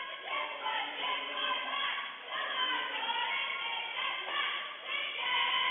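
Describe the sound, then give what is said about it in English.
A noisy basketball crowd roars steadily in pretty full but not packed bleachers at a night game, many voices overlapping into a continuous, fairly loud din with small swells throughout. “The bleachers are not packed here tonight, but pretty full and a very noisy crowd.”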